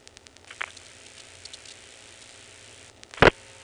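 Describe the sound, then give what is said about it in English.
Faint mechanical clicks from a telephone exchange register sender repeating the dialed digits of a number to a hospital tick over a low background hum, followed near the end by one sharp, louder click. No voices. “you're going to hear an extra little set of clicks, and that's actually the register sender repeating the digits”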